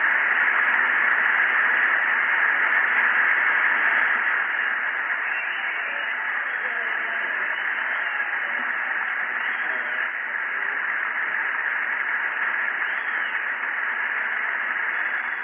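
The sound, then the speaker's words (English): Sustained crowd cheering and applause for the President from the gallery and the floor, a steady, dense roar with a thin, band-limited broadcast quality that holds at an even loudness throughout. “Cheers for the President from the gallery and from the floor.”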